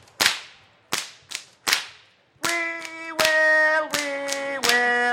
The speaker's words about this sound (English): So, audience, I tell you what, we're going to start off with some musical whipping to start off the show. Let's give it a shot.